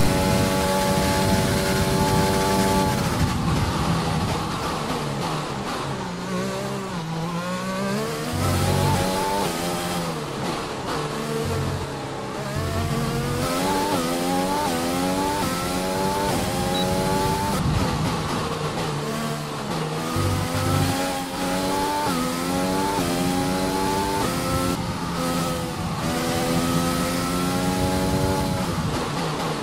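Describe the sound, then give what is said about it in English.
A car engine drives hard and revs during a timed run, its loud droning pitch climbing again and again through repeated gear changes, sustained for the whole stretch with no voices. “and he had a little go on his Thai car.”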